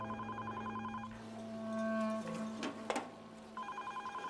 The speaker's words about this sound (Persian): میگم این تلفن خوشو کشتم، بعضی‌ها نمیخوان جواب بدن. من دستم بنده، خودت جواب بده.